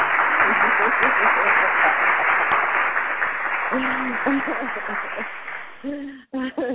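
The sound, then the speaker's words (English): A round of applause for guests being brought onto a show: a dense, steady crackle of many hands, with voices whooping and hooting over it. The clapping gradually thins and fades near the end. “I definitely want to make sure I give them all a round of applause as we're bringing them on the line right now.”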